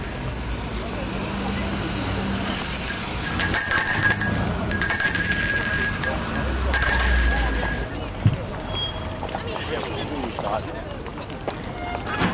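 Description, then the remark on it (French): A doorbell at the door of a house in Lyon rings in three bright, buzzing bursts, each lasting about a second, with short gaps between them, over a steady rumbling background noise. “Il sonne.”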